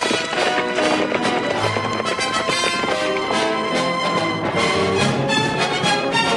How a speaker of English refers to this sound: Zorro rides off on his horse. Quintero's men give chase on their horses, their hooves throwing up a cloud of dust.